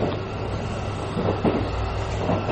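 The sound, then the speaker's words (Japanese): A JR Kyushu Yufuin no Mori sightseeing train rumbles steadily, heard from inside a carriage after departing Hakata Station on time, a low continuous drone with faint knocks and rattles rising now and then, with no voices. “湯布院の森号は博多駅を時間通りに発車をしました。”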